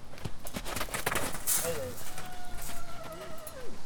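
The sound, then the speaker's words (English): Hooves clip-clop in an irregular scatter as several wild horses move about outdoors on a Colusa County ranch holding some 240 wild horses and burros, most rounded up from public lands in Nevada, with a thin whinny-like call rising and faint indistinct voices. “Now the total animal population at her Colusa County ranch includes some 240 wild horses and burros, most of them rounded up from public lands in Nevada.”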